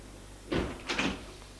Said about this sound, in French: Ils prennent l'ascenseur.